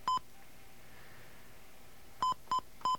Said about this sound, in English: All right, we're going to make a phone call now. We have a dial tone? Okay. Get an outside line. I'm sorry for all the little beeps, but they're, whoops. And I'm also sorry I misdialed that number.